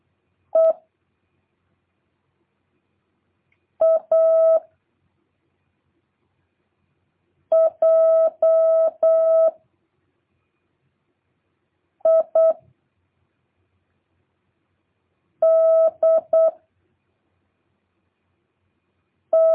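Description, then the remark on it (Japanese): A single steady Morse code tone keyed quickly at a raised speed in short dot-and-dash bursts, repeating the same message sent just before, grouped into about six letters with brief silent gaps between them, clear and fairly loud with no other sounds. “最後のだけもう一回同じもの打ちますから、今と同じもの打ちますから、書き取らなくてもいいです。”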